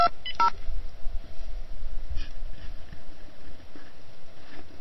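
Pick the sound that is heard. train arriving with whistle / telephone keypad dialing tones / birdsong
telephone keypad dialing tones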